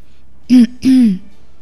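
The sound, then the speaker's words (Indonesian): A person clears their throat twice in quick succession, a short voiced rasp followed by a slightly longer one, fairly loud with silence around it. “berdehem.”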